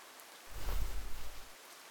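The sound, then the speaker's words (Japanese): Steady heavy rain hisses down without pause, with a low rumbling swell rising and fading through the middle, as if a heavier gust of downpour passes. No one speaks. “この雨じゃ走って帰ったとしても、風邪ひいちゃいますよ。”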